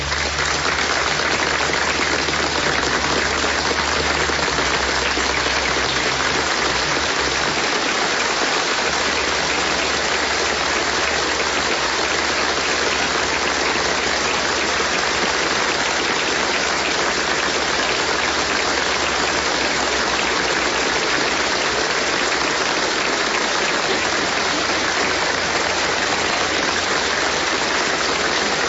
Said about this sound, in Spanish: Permítanme ir de nuevo a la Policía Nacional. Lo aplauden a esta hora.